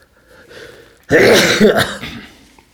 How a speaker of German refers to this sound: Können wir dann rausschneiden, die Huster nachher.